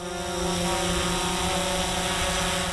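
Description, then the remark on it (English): A steady, high-pitched whirring buzz of drone propellers hovering, holding constant tonal bands throughout with no breaks and no voices. The drone is flown by TIDE Aboriginal Working on Country rangers on the Oval in Taree, Australia. “The Aboriginal Rangers are funded by the Australian Government's Working on Country program, and they're using the drones to get some decent records on who and what is around this community.”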